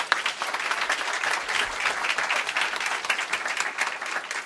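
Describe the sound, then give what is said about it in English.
An audience at a group anniversary meeting applauds the guest speaker steadily, a dense wash of many hands clapping at once, sustained throughout without pause or voices. “our guest speaker, and have a round of applause.”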